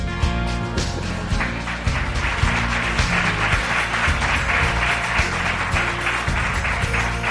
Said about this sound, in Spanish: Muchas gracias por este merecido aplauso y envío un saludo muy cordial a los madridistas de la sala, que están tan felices como yo, suponiendo que hay alguno.